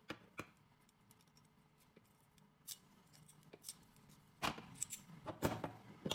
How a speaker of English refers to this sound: Try to turn the lock on. It's trunk lock.